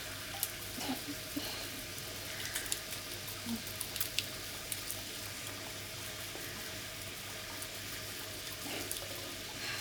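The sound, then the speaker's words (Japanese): Soft, wet squelching and rubbing continues steadily for several seconds as shampoo lather is worked up into foam, with faint watery hiss and no voices. “そしたら泡立って泡立って泡立って。”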